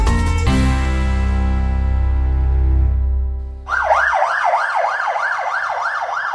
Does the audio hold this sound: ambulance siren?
yes